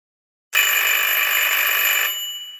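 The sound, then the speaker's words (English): A wall telephone in a flat rings loudly in a single sustained burst of harsh metallic bell clatter, lasting over a second before trailing off in a fading ring. No voices are heard. “The buzzer went off loudly again, and I about jumped out of my skin.”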